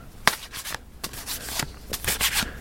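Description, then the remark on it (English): A deck of cards being shuffled, with a run of quick, crisp riffling bursts and soft papery flutters repeating over a couple of seconds, no voices. “So you just take these cards and you shuffle them up.”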